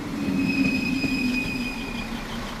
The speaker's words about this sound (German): Garding auf der Halbinsel Eiderstedt. Die Regionalbahn aus St. Peter-Ording fährt ein in den kleinen eingleisigen Bahnhof.